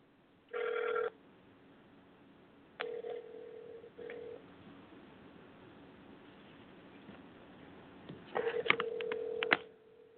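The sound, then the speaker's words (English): A telephone rings over a speakerphone line during a call to Law Enforcement Against Prohibition: three tinny, buzzing bursts of a steady ringback tone separated by pauses, with faint line hiss between them and no talking. “Well, we're ringing.”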